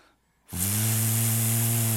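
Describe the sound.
After a brief silence, a voice abruptly launches into a loud, steady, low droning buzz with a breathy hiss, imitating the whirring wings of a large, palm-sized green dragonfly. The buzz holds unbroken to the end.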